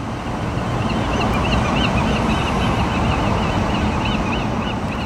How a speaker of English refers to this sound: you sent us some amazing bird songs, starting with Dee Dee in San Francisco, sending us some gulls